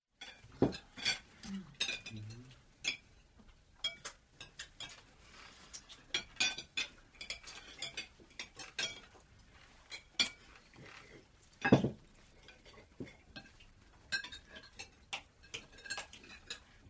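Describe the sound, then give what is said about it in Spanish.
Plates and cutlery clatter and clink as a table is cleared after dinner, with irregular sharp knocks and scrapes of dishes being stacked, moderately loud, no voices. “Se levantan de la mesa después de cenar y recogen los platos.”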